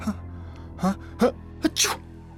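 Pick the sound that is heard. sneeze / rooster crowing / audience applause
sneeze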